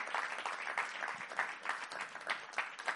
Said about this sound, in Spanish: Le podemos dar un aplauso a él. Aleluya. Amén.